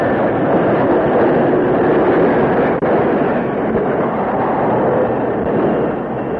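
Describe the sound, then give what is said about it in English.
A steam locomotive brakes to a halt near the Bluefield Spur switch as the engineer closes the throttle and applies the brakes, a loud, steady roar of hissing, grinding rumble that holds for several seconds, broken only by one brief dip, with no voices. “The engineer closed the throttle and applied the brakes.”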